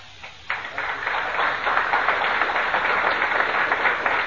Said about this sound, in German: Applaus.